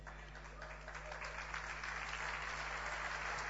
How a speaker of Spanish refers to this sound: Ese aplauso está muy horrible, está muy triste.